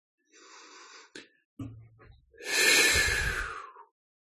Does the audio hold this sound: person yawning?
yes